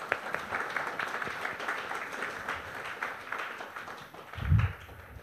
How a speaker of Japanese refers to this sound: じゃあありがとうございました。ちょっと拍手をお願いします。